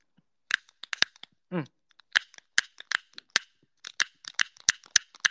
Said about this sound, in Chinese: 我带了烟也带了打火机，然后是因为打火机打不着我才抽不了这个烟的，能不能钻木取火呀？我再试一下，我不服，我们再试一下这个打火机。